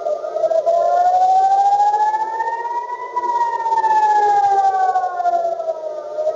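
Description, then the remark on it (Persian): An air raid siren wails steadily in central Israel, Tel Aviv and part of the West Bank during an attack in which a missile fired toward Ben Gurion Airport was intercepted. Its pitch slowly rises and falls in a long sweeping arc, loud and continuous with a faint hiss beneath and no voices. “در زمان حمله، مسیر چندین پرواز تغییر کرد و صدای آژیر خطر در مناطق مرکزی اسرائیل، تل آویو و بخشی از کرانه باختری به صدا درآمد.”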